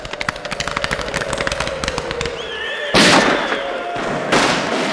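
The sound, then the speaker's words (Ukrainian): Cossack musket gunfire crackles in a rapid, uneven volley of sharp shots in a battle against janissaries, then a brief high whistle rises before two loud, roaring blasts burst out, one after the other. “Вдарили тоді мушкети козацькі, задзвеніли шаблі, стріли засвистіли, коні заіржали.”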